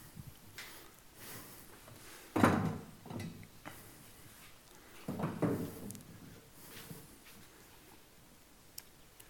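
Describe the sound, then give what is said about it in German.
Two chairs are brought up and set down one after another, each landing with a dull, clattering thump and a brief scrape, with quiet shuffling and faint knocks in between. “Ich habe da 2 Stühle, die ich gleich raufholen werde.”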